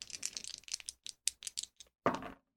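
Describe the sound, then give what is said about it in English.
Percentile dice, rolled to consult the event focus table in the Mythic tabletop game system, rattle and clatter across a hard surface in a quick burst of small clicks, a few separate taps following, then one sharper final clack as they settle. “So I'll roll my percentile dice and look at the event focus table in Mythic.”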